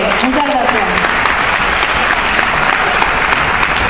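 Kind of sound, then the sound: crowd, applause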